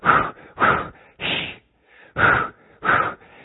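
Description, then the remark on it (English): A man demonstrates the Lamaze breathing exercises he learned in a childbirth class: five loud, rhythmic breath bursts, quick huffs and pants, with a short pause before the last two. “And we did all the breathing exercises.”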